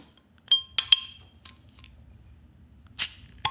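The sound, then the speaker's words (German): A Steamworks beer bottle's crown cap, printed with a steam boiler, being opened: a few sharp metallic clicks and clinks with a ringing tone, then a short, bright hissing pop as the cap comes free, over a faint low rumble. “Und jetzt mache ich, so jetzt kommt das Geröff.”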